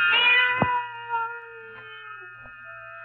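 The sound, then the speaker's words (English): A cat cries in a long, drawn-out meow that wavers and slowly fades, heard alone at moderate loudness with a faint low hum underneath. “Then the silence was broken by the faint crying of one cat.”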